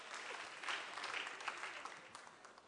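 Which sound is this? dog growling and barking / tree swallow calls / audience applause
audience applause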